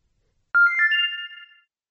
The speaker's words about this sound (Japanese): 携帯の着信音は雰囲気を壊しやすいと心得る。歌声のような着信音。着信メロディーで癒されよう。今は携帯の着信音とはいえ高品質です。